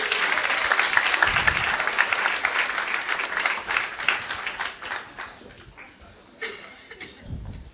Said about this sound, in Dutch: Ik stel u voor aan de dames. Dames, kom erbij! Applaus graag!